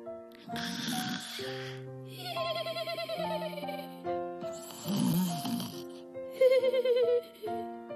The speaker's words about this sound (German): Leises Schnarchen drang an Merles Ohr.